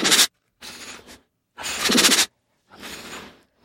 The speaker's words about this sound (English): But maybe we should leave our audience with a nice happy tiger sound. This is called a chuff, and it's the tiger equivalent of a purr.